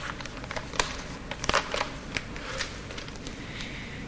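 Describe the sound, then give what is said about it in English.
Paper crackles and rustles for several seconds as a folded letter is unfolded and smoothed flat, with sharp crisp snaps among softer brushing sounds and no voices. “She unfolds the letter, smoothing out the paper.”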